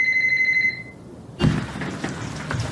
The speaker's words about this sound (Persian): کسی تلفن رو جواب نده ها.